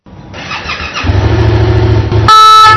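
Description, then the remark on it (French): A red BNSP rescue motorcycle, ridden by a two-person emergency team, revs up and roars in busy, dense traffic, then a loud, sustained horn blares over it near the end. “Au regard de la densité de la population et des trafics routiers, pour gagner en temps et en efficacité, la BNSP met en place les premiers binômes de secours à moto afin de réduire les délais d'intervention”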